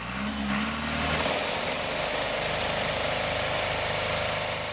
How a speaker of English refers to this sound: Tractors shake trees to get the olives off.